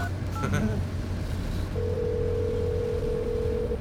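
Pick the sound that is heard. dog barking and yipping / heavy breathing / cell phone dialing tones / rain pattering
cell phone dialing tones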